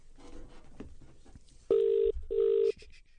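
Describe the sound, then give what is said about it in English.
Faint clicks and muffled handling noise, then a phone line ringing out as a man phones a caller back to make a prank call: two loud, steady electronic ring tones in quick succession, like a double ring heard through the earpiece. “Hang on, I'm going to phone him back.”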